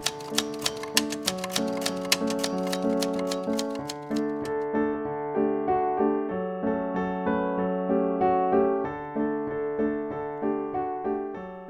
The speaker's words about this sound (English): Her 60s-era typewriter makes the lyrics appear on the page, letter by letter. It's a convergence of two eras in American culture, and it's what might keep the typewriter typing a little longer.